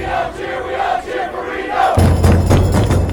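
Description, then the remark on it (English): A loud crowd of soccer fans in blue and yellow chants and shouts together down Virginia Street, stopping traffic, in a dense roar, and halfway through a steady low drumming kicks in as fans bang drums beneath the voices. “A sea of blue and yellow stops traffic down Virginia Street as fans bang drums, wave flags, and chant at the top of their lungs.”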